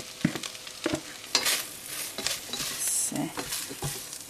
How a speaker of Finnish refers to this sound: Ananaksen pilkkominen. Mini Pavlovan päälle.